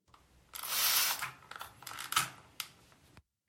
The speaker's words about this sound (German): Jetzt, wo du sprühen gesagt hast. Ist das einfach eine Sprühflasche, Glasreiniger oder sowas? Ja